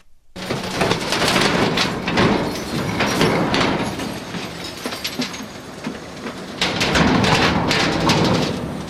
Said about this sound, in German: gerade wo er am Leeren von einem Abfallcontainer war.